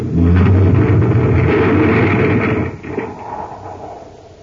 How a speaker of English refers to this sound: We're sealed in. Oh, brace yourself. Our tunnel car is going to crash right into the debris.